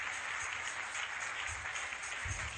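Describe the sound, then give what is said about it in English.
An audience claps steadily throughout, a dense, continuous wash of many hands merging into a bright, hissy roar at an even loudness, with no voices over it. “Oh, you can clap those hands. Clap these hands.”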